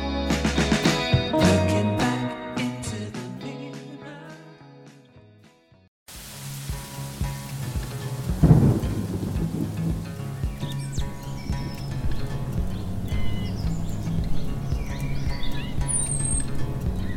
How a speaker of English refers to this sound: When it comes to a rainstorm, the soundtrack we hear is everything. Birds or thunder shape the mood and tell a story.